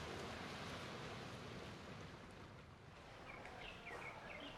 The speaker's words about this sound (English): You can hear the boats leaving the harbour, people out having fun on jet skis, and the helicopters going to the nearby naval base.